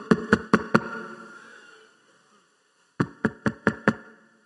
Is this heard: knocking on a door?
yes